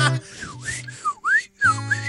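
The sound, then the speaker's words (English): A person whistles a short run of swooping, sliding notes that rise and dip in pitch, clear, with brief pauses between phrases over a faint hiss and low hum. “First call whistler.”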